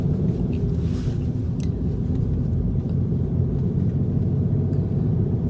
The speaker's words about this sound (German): Ich sitze im Auto und habe mein Ansteckmikrofon dabei.